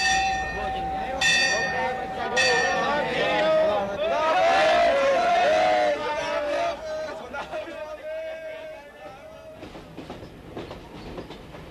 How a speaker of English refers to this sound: We are in the main railway station in Karachi. We have tickets for a train with a romantic name, the Khyber Mail, leaving for the north at 9 p.m.